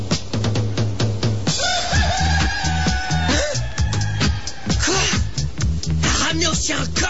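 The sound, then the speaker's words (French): A rooster crows loudly, a long drawn-out call with a rising start, set against a steady rhythmic background and some shorter squawks toward the end. “Les piles auraient gelé pendant la nuit, alors qu'avec un coq...”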